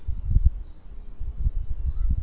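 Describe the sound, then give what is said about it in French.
An airplane passing overhead gives a low, rumbling drone that swells and pulses unevenly, while a thin, steady high-pitched insect trill runs throughout. No one speaks. “Il y a aussi un avion qui passe, je sais pas si vous avez entendu.”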